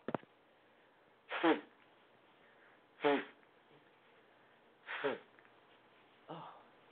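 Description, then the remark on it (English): Someone blows their nose during a live show in four separate bursts, each a short, breathy, honking rush of air spaced a second or two apart, with the last one fainter. No one speaks. “I'm going to blow my nose.”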